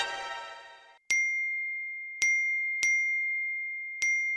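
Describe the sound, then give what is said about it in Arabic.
A phone's message notification dings four times in quick, uneven succession, each a bright clear chime that rings out and fades, following a brief burst of busier sound at the start. “اقفلي الصوت يا منى، روشتينا. ده اكيد يا جروب عيله يا جروب امهات مدرسه”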